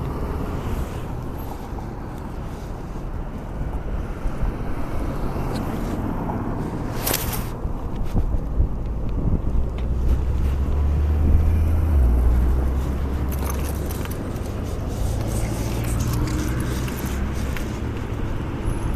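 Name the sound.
wind blowing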